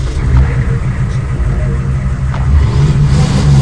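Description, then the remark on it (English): A Hummer engine starts and rumbles loudly, its deep running note swelling as it revs up partway through, with no voices present. “A second Hummer was brought back to life,”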